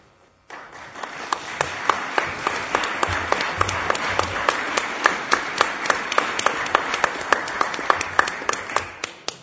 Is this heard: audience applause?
yes